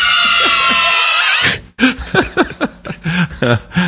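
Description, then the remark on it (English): A loud, shrill burst of many children screaming together for about a second and a half, added to a Nancy Pelosi clip about jobs, then cutting abruptly to a voice talking in quick bursts. “So I took that clip and I realized there was something missing from it, and that was a bunch of kids screaming.”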